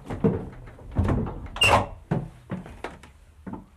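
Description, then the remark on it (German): An original old wooden door in an attic creaks and squeaks as it is pushed open, with a series of knocks, rattles and a thunk as it swings and settles. “Wenn man hier die Tür aufmachte, das ist die Originaltür, und guckte so geradeaus, dann sah man eben nur, da ist noch eine Tür.”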